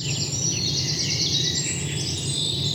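Several birds chirp and call back and forth in a steady morning chorus, high bright tweets layered over a soft low outdoor hum, with no one talking.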